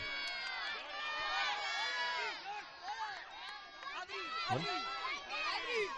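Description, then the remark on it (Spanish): A crowd of children shouting and calling out at once around the 18th green of a golf course, asking golfers Jon Rahm and Adri Arnaus for balls as they leave the green, their high-pitched voices overlapping in a continuous, excited clamor that rises and falls for several seconds. “Esos son los gritos de los niños para John Ram y para Adri Arnaus pidiéndoles bolas.”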